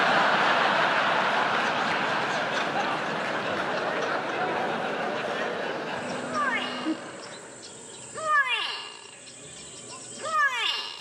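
A grey go-away bird gives a loud, nasal call in two or three descending bursts, each a wavering, downward-sweeping cry, over a steady hiss of insect buzz in the background.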